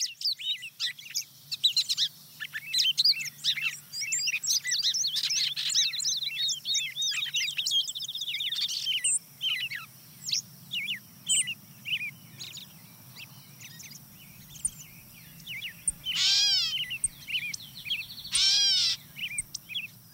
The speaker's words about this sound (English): So now who else is joined in here? Yeah, the wood peewee comes in, followed by the song sparrow and gray catbird. They start to pile on pretty quickly about this point. Okay, there's who's that? There's a catbird, sounding like a cat mewing.